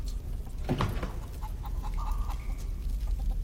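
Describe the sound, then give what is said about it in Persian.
A chicken clucks in a few short bursts, followed by a higher drawn-out squawk, over a steady low rumble of background noise. “حالا باید یه مرغ بکشیم، ولی اون کوچیکه نه، اون اسم داره.”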